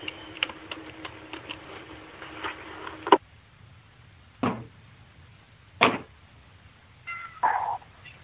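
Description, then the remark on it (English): A feral cat meows a few times outdoors, short, fairly faint calls, with a low background hum and some light clicking before them. “That's one of the feral cats outside.”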